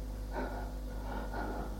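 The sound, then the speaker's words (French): Breathless panting against a door after pushing someone out and shutting it: two heavy, ragged breaths about a second apart over a low steady hum, with no talking. “Les plaques essoufflées contre la porte.”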